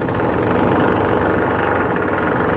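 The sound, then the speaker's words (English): A jackhammer breaking up bathroom floor tiles in a unit of an apartment complex, recorded from outside the unit at the lifts: a loud, unbroken stream of rapid pounding with a heavy rumbling, vibrating quality that holds steady throughout, with no voices. “It was so loud and it was vibrating so much, getting the tiles up off the bathroom floor, that in our other bathroom, which is like at least four rooms away from the bathroom that they're jackhammering, tiles fell off the other”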